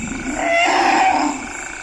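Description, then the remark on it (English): A forest elephant in the dense forest of the Congo region of Central Africa lets out a single rough, throaty grunt that swells and fades over about a second and a half, fairly loud, with no voices or other sounds around it. “Forest elephants in the Congo region are so hard to find, most people give up looking.”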